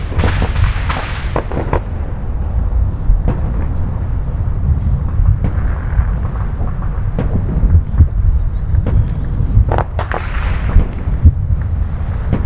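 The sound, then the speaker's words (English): Fireworks boom and crackle outdoors on the 4th of July in a dense, continuous barrage, with sharp bursts popping over a deep rumbling roar and occasional fizzing crackles. “It's the 4th of July, and if you don't have fireworks where you are, well, listen to these beauties in stereo.”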